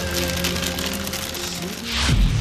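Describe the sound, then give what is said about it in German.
Hail falls on a tour bus in Cologne in a dense, steady clatter of tiny impacts, swelling louder near the end, with faint sustained musical tones humming underneath. “das ist der Original Regen in Olli Schulz' Tubus. Es ist kein Regen, es ist tatsächlich Hagel.”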